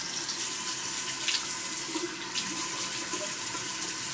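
water running

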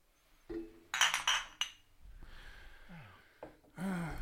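glasses clinking

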